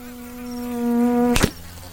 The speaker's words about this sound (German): Richtig. Er hat gerade seine lange Zunge ausgestreckt und eine Fliege gefangen.